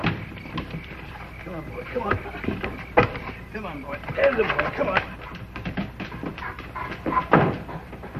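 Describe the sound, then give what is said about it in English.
A frightened collie whimpers in several short, high whines that rise and fall, scattered over the seconds amid soft voices and some shuffling noise. “We brought another collie.”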